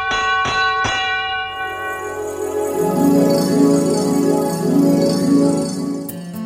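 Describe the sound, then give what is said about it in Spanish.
A small hand bell rings with a few quick strikes at the start, then keeps chiming in a steady, shimmering rhythm, its bright metallic tones hanging and overlapping in the air. No one speaks. “Aquí estaré siempre con mi campanilla y el telón abierto, esperando una nueva puesta en escena.”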